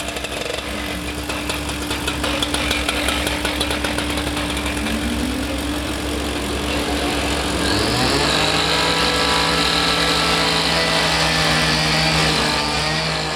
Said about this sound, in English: As you can hear, there's literally a sledgehammer right outside my window.